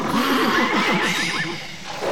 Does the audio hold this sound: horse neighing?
yes